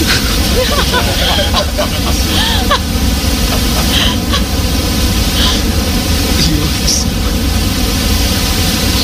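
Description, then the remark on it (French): A steady, deep synthesized brown noise, made digitally with a few clicks, fills the whole clip. It is a dense low rumbling hiss at constant loudness with a soft wave-like wash, lower-pitched than white noise, while faint voices murmur underneath early on. “Alors, par exemple, j'ai créé pour vous en deux clics un bruit brun. C'est un bruit qui ressemble un peu à des vagues.”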